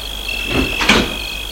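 A car door is opened with a short creak and a dull clunk as a man opens it for a woman, who steps out of the car. A steady high-pitched cricket-like chirring continues in the background.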